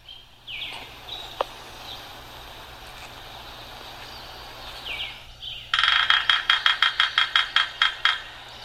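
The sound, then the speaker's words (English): A woodpecker seeking a mate drums a loud, rapid burst of about a dozen strikes on the metal base plate of a light pole near the end, after a couple of brief bird calls over a steady outdoor hum. “Yep, and that is a woodpecker that's pretty lonely trying to find a mate.”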